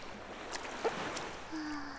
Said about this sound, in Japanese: はぁ、波穏やかだね。ぷかぷか。